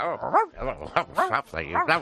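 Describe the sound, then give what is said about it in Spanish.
A man's voice in a studio mimics a small dog, letting out a rapid string of five or six high, yappy barks and yips, fairly loud. “El perrito que tenemos en el estudio es”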